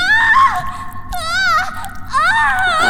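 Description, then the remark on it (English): A woman screams in high, quavering bursts, her voice wavering and strained across three drawn-out cries over a steady low rumble in the background. “What a lovely scream.”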